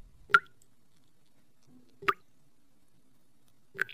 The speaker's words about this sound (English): All I hear is something dripping. It's the shower, Mr. Bell. The shower is dripping.